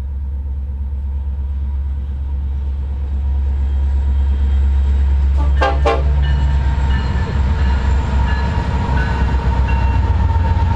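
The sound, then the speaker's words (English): An empty taconite freight train with at least three locomotives and small, uncovered two-bay hopper cars rumbles by, its low roar steady throughout, while a locomotive horn gives one short blast partway through. “We got a train to honk. It's this one appears to be an empty taconite train.”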